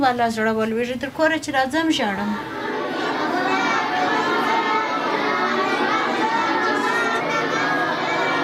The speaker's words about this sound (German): Eine Koranschule für Mädchen am Stadtrand von Kandahar. Rund 400 Schülerinnen lernen hier bis zu 5 Stunden am Tag. In verschiedenen Klassenräumen rezitieren sie die Suren des Korans.